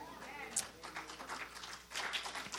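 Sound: audience clapping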